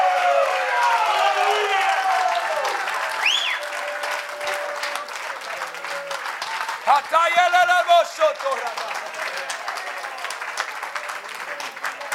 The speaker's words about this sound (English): I think you ought to give God a standing ovation. Why don't you stand to your feet right now and clap your hands and give God a great shout of praise.